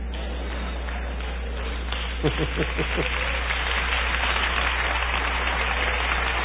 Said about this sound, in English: You're clapping for Jesus. Amen. Glory be to God.